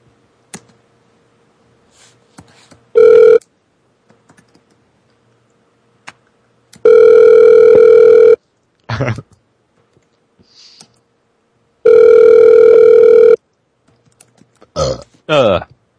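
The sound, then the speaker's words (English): An outgoing phone call's ringback tone repeats: a short buzzy tone, then two longer steady rings about five seconds apart, with scattered clicks and soft handling noises between them. “Call that bitch back. All right, I'll call her back one time.”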